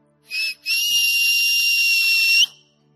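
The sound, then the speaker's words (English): A loud, shrill whistle blown twice: a short blast, a brief gap, then a long sustained blast lasting nearly two seconds before cutting off, with no one speaking. “And so I want him to whistle again specifically about that.”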